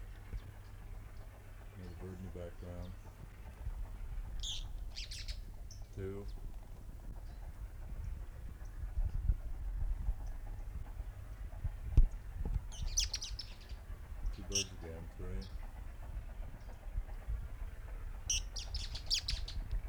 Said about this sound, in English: Several birds there. Three birds singing at one time.